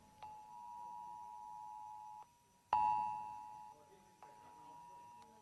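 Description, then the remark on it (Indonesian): A fire alarm warning device beeps at twelve o'clock in long, steady high-pitched electronic tones that restart a few times, with one louder burst midway and faint voices in the background. “Ada fire alarm.”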